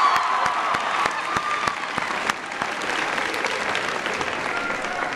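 An audience at Bladensburg High School claps steadily and fairly loudly after a student's introduction, the dense patter of applause sustained throughout with a few sharper individual claps standing out.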